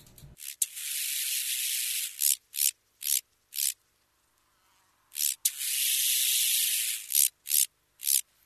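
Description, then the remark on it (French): A large banded grasshopper (Arcyptère bariolé) in grassy mountain terrain stridulates in two bouts, each a long dry rasping buzz followed by three or four short, evenly spaced raspy pulses, high-pitched and hissy, with quiet gaps between. “Il ne s'agit ni d'un oiseau, ni d'un serpent à sonnette, comme on me fait parfois la réflexion, mais d'un criquet qui s'appelle l'Arcyptère bariolé.”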